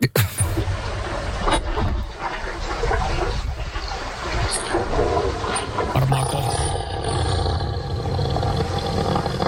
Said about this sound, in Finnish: Nimeä ei pystynyt erottaa, mutta selkeästi kenet hän kutsui, niin se on ihan perseestä se tyyppi. Tää oli nyt. Anteeksi, mä laitoin elefant soundi.